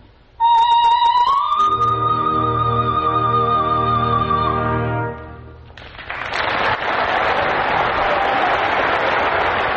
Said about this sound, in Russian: Но показательно, что публика все равно награждает ее аплодисментами.